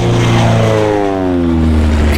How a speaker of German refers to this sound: Was ist das denn? Das klingt ja wie Krieg. Nein, guck mal nach oben. Da ist ein Doppeldecker. Ein gelber Doppeldecker überfliegt die Gruppe und knattert Richtung Autobahn davon. Mann, ein echter Doppeldecker.